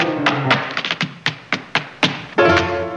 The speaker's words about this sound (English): Jerry stands on the piano, tapping lightly in his loafers.